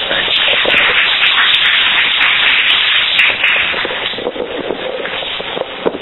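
A crowd applauds warmly, a dense, steady wash of many hands clapping that stays loud for several seconds before thinning slightly toward the end. No one speaks.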